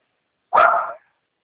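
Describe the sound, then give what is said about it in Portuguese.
A single sharp, loud dog bark heard during a phone call, lasting about half a second before silence returns. “Repete, por favor, esse cachorro tá terrível aqui.”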